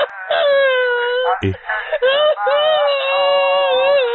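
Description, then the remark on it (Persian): A person on a phone call wails loudly in long, drawn-out, quavering cries of exaggerated mourning, as if practicing mourning, pausing briefly with a sob-like catch before resuming the sustained, theatrical crying. “دوباره داری تمرین عزاداری میکنی”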